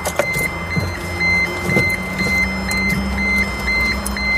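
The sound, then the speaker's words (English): A car's indicator ticks steadily in a repetitive rhythm over the low, continuous rumble of the engine, with a faint high electronic tone running throughout and no voices. “Is this the indicator, isn't it?”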